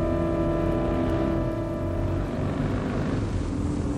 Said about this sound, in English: But the other half of their separated self has escaped all this and is already halfway up the escalator, ticket in hand, desperate to explode into the sunlight and ridiculous air of London town and its traffic's noise and unfortunate people.